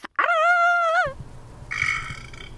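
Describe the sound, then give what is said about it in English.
A long, loud burp with a wavering croaky tone lasts nearly a second, then gives way to rough rumbling and a shorter, fainter belch-like groan. “And I was behind the steering wheel of that car, basically like going, ah, and burping.”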